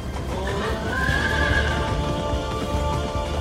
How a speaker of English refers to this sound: Lucky spots a buckskin horse galloping alongside the train.